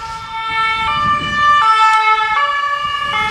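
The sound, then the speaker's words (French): An ambulance siren blares in a steady two-tone hi-lo pattern, switching pitch roughly every second, over a low rumble of road traffic as it passes a cyclist on the road in front of the post office. “Juste laisser passer l'ambulance.”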